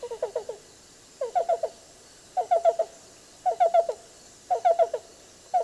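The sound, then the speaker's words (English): A black-billed cuckoo repeats its call: clipped groups of three or four soft, hollow cu-cu-cu notes, each group about a second apart. It is fairly clear against quiet background hiss, with no talking. “Black bill is going to be a little more simple like this, a little more rolling and complex song for the yellow-billed, but both of them are somewhat similar.”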